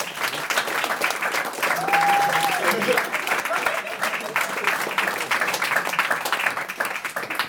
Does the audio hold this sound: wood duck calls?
no